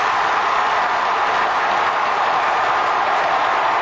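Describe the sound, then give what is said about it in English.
A ballpark crowd at a 2011 Milwaukee Brewers game roars after Gomez scores the winning run on Morgan's base hit, in a steady, dense wash of cheering that holds at a loud, even level throughout, with no voices speaking over it. “Then he let the crowd just carry the call after Go-Go score.”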